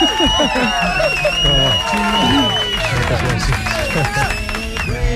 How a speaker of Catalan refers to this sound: Gaspar Hernández, un aplaudiment, per l'amor de Déu.